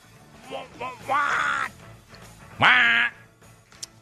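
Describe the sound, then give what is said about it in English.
Loud, nasal quacking squawks burst out in a quick run of short calls, then one longer drawn-out squawk, prominent, with faint background noise between them. “Damn, Bird. Really? Really, Bird?”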